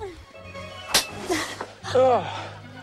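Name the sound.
slap on a person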